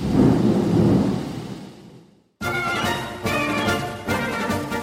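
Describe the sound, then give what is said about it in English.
A deep, rolling thunder rumble from a torrential thunderstorm in Boykin, South Carolina fills the first half, loud and booming before fading out, then a brief silence and an abrupt switch to a steady, tonal, music-like sound. “where I was stopped by a wonderful torrential thunderstorm.”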